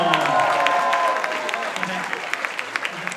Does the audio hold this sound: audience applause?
yes